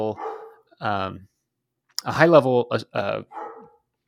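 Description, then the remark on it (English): Dogs bark in the background in a string of about five or six short, harmonic barks with uneven gaps, moderately loud, with no other sounds around them. “Dogs barking in the background.”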